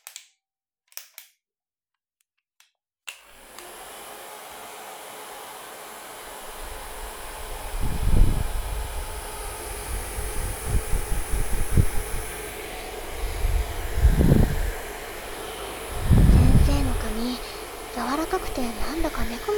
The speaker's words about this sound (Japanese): それでは、ドライヤーで髪を乾かしていきます。